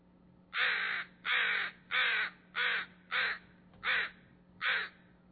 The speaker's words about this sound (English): There's another recording coming up. It's kind of interesting. Early morning, a crow, which did not want to leave, but did not want us around.